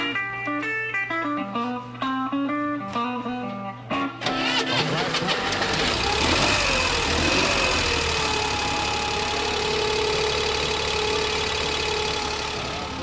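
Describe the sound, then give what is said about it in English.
A short melodic musical passage plays, then the engine of a modified Corvair prototype car in a garage cranks and catches, settling into a loud, steady idle in economy mode with a rough rumble and a faint wavering whine. “he bounded through the door leading to the garage and showed us the modified Corvair”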